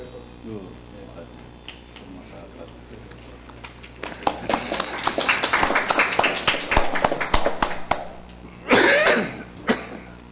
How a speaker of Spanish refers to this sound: Hacen ustedes muy bien en aplaudir, porque realmente tenemos un gran embajador de Indonesia en México.